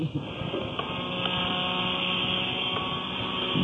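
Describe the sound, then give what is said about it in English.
The engine of the paddle steamer Medway Queen gives a steady, unbroken mechanical drone, a dense whirring hiss layered over a low tonal hum, with a few faint knocks and no voices. “That is the paddle steamer called the Medway Queen.”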